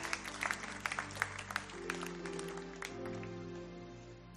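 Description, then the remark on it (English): An audience claps hands unto the Lord in a loose, uneven patter of sharp claps, while sustained low organ-like chords hold underneath. The clapping thins out toward the end. “Can somebody clap your hands unto the Lord and bless his name?”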